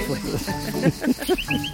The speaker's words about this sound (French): Mais il siffle bien, votre chien. C'est pas lui, c'est moi.